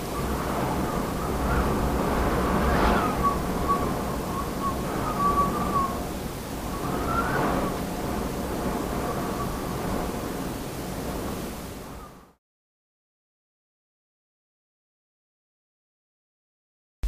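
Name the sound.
wind blowing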